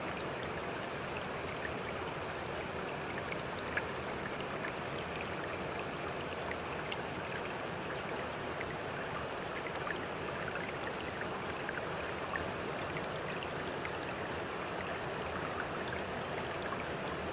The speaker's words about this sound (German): Der Fluss fließt schnell und du fließt mit ihm mit.